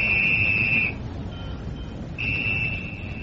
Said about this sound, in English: The whistle? Yes, the signal, Lowry.